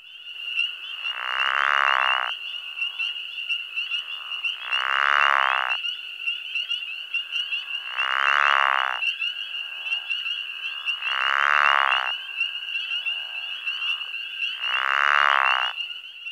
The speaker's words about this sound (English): Listen to this pickerel frog, floating on the surface of the water and giving vibrant snoring calls as spring peepers sound off around him.